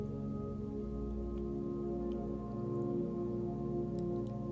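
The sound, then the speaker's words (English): Steady, continuous rushing of a waterfall, water flowing over rocks, an even wash of noise that never breaks, blended with a sustained low musical drone throughout. No one speaks. “As you observe the waterfall, repeat these affirmations to yourself or out loud.”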